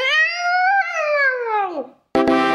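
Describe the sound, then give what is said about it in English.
A child's voice imitates an elephant's trumpet: one long, loud, high-pitched wail that wavers and then slides down in pitch, followed by a brief pause and a short raspy burst. “This is my impression of an elephant.”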